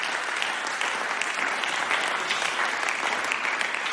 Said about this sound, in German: Danke. Gebt den beiden doch nochmal einen Applaus.